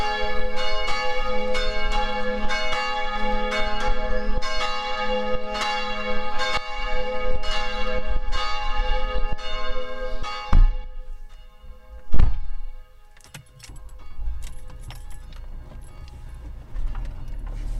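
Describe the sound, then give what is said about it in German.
Church bells ring in a steady, rhythmic peal with rich lingering overtones, heard on leaving a parish house shortly after noon; a couple of heavy thuds break in, and the bells carry on more faintly. “Wir verlassen das Pfarrhaus, begleitet von Glockengeläut.”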